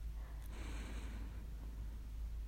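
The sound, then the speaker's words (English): A slow, deep breath drawn in: a soft, airy hiss that swells for about a second and then fades into quiet. No one speaks. “Right now, just focus on your breathing and the anticipation of pleasure that you will soon give yourself.”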